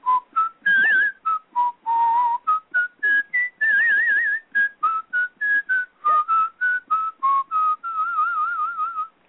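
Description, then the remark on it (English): A person whistles a lively melody, a run of short separate notes with a few wavering held tones, imitating the clarinet tune that represents the cat. No one speaks. “Sonia the duck was represented by an oboe, and the cat was represented by a clarinet, and, you know, and Sasha the bird was represented by a flute or a piccolo.”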